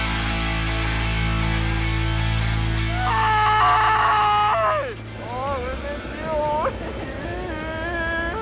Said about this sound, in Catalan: Que ho deia jo a primera hora, sembla més un crit de dolor que no de victòria, eh?